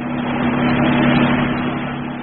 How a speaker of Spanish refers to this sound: No lejos de ahí, un auto avanza velozmente por el solitario boulevard de Saint-Tropez.